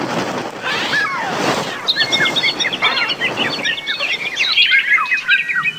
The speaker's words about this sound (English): Oh man, birds are the worst. They're the worst broadcast animals. They're high-pitched, they're constant, they don't stop. Birds are just the worst.